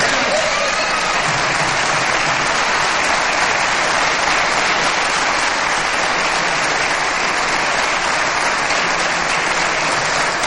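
Sustained audience applause, a dense, steady wash of many hands clapping at an even loudness for about ten seconds with no voices rising above it.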